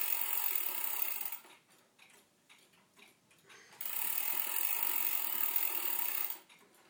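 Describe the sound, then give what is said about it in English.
An old weight-driven clock with big weights being wound up: the winding mechanism ratchets in two long bursts of rapid, dense clicking, broken by a quieter pause with a few faint ticks before the cranking resumes and then stops. “Big weights on this old thing. Wound back up, just as well.”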